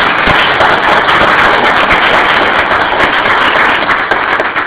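A church audience applauds a choir in a dense, steady wash of clapping that stays loud and even for about five seconds, with no voices standing out.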